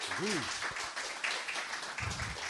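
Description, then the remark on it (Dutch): An audience applauds, a dense, steady wash of clapping that fills the whole moment, with a short rising whoop early on and a few voices calling out near the end. “Geef ze een hartelijk applaus nog een keer.”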